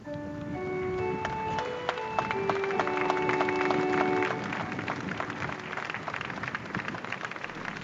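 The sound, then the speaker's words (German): Dense, steady crowd applause for the Pope at a Mass, after the final blessing, a continuous crackle of many hands clapping. During the first half it mixes with sustained musical tones that then fade, leaving the clapping alone. “Und hier bekommt der Papst noch einmal Applaus.”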